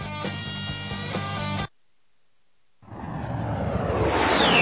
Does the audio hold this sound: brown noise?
no